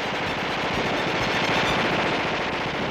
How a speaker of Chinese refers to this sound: 外面无数支枪一起开火，乌篷船被密集的子弹击中，瞬间千疮百孔，继而冒出鲜红的火苗。